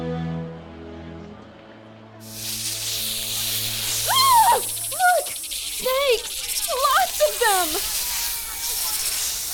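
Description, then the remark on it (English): After a soft tonal drone, a loud, steady snake hiss rises and fills the rest of the scene, with wavering, cry-like voices rising and falling over it. “God prepared many poisonous snakes to enter the camp and seek out warm flesh.”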